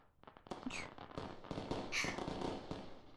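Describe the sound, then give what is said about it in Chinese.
Fireworks set off for a wedding go off in a quick irregular series of sharp pops and booms, with crackling trailing between bursts and no one speaking. “你往窗边看，烟花的盛放可真是美。”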